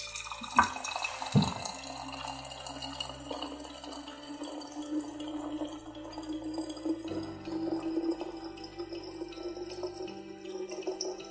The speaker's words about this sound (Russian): Так, сюда мы наливаем воду. Не промахнись.